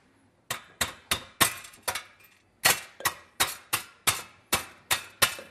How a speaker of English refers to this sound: I'm going to take the test tube that we've just heated up and smash it up.